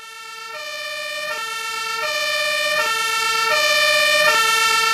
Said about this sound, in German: Wenn das Martinshorn ertönt, weiß jeder, die Feuerwehr rückt zu einem Einsatz aus.